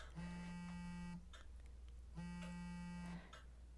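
A phone rings with two harsh, buzzy tones, each lasting about a second and separated by a short pause. The rings are loud, over a faint background hum.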